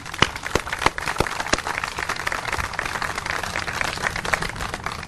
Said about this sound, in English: We start with a thank you to our mayor, Mayor Welsh. I think it's a real heavy clap for this one.